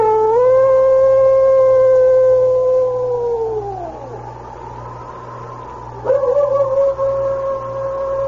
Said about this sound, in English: It was then that he threw back his head, and a long howl broke the stillness.